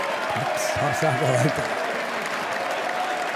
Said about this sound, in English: Look at all these fucking shills standing, clapping. What's this? Look at Trudeau on the floor there.